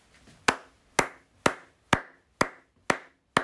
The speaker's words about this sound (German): Also ich hoffe, man hört das. Das ist mein tosender Applaus. Also die Massen, in diesem Fall bin ich die Massen, okay, müssen dir applaudieren,